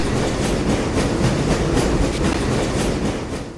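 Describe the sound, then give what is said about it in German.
A train on the Trans-Siberian Railway near the shore of Lake Baikal rolls steadily along the rails with a continuous, loud rumble and a faint rhythmic clickety-clack. There are no voices, and the sound fades slightly at the end. “das sind auf einmal ganz andere Geräusche. Offensichtlich lässt sich Ihr Zug auch auf andere Gleise versetzen.”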